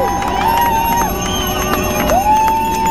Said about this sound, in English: At the detention facility, a film studio converted to hold detained and arrested protesters, the crowd assembled across the street, cheering and singing. Three of those held inside were released to cheers from supporters.